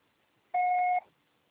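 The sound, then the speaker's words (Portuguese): A single steady electronic beep, about half a second long, sounds alone at a clear mid-high pitch against faint background hiss: a voicemail tone signaling that recording of a message has begun. “Grave seu recado agora.”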